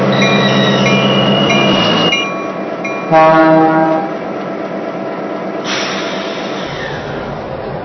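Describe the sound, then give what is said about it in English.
A passenger train, train number 17, the Super Chief, rolls in on track one at Chicago with a loud, steady rumble of wheels and machinery, a brief horn-like tone sounding midway before the noise eases slightly and continues. “Now arriving in Chicago on track one, train number 17, the Super Chief.”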